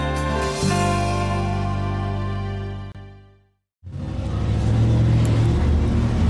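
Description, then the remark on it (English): A loud, souped-up Chevy driving through town rumbles with a deep, steady droning growl. It cuts out briefly, then a rougher, throatier roar returns. No one speaks. “No, that's a Chevy. It's another a souped-up Chevy running through town.”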